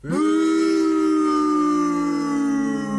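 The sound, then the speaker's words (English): A loud, drawn-out booing sound effect: one long, low jeer that swoops up at the start, then holds a steady droning pitch for about three seconds with no talking. “You know, the sound effect I just put in was boo because it was booing you.”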